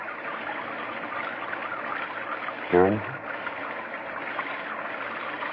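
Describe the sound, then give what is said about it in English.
Steady winter rain at Lake Colony hisses evenly throughout, a dense, unbroken wash of noise. About halfway through, a voice briefly asks a short question over it. “Just the rain.”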